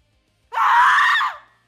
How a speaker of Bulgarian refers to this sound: Тогава тя започна да крещи.